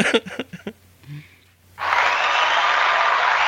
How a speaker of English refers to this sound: Yeah. That's live right there. That's people cheering, yeah.